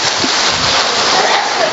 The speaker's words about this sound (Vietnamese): Rồi cho một tràng pháo tay thưa anh chị em.